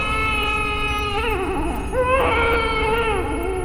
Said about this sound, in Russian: А там стоит серо-зеленый, дохлый, как велосипед, низкорослый, пучеглазый, с шибко эллипсной башкою, в общем, с виду как пришелец, весь дрожит и тихо плачет.